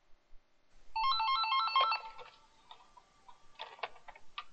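A phone rings with a short burst of rapidly warbling electronic tones lasting about a second, followed by faint clicks and handling noises, with no one speaking.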